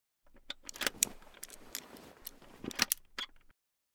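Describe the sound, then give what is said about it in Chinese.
A key jiggles and turns in a small metal chastity lock, producing a series of crisp metallic clicks and light rattles over about three seconds, with no voices. “这是贞操锁的钥匙，自己打开。”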